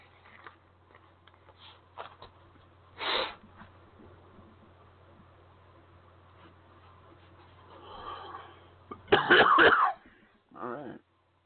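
A person coughs several times: a short cough early on, then a loud, harsh double burst near the end followed by a softer final cough, over a steady low hum.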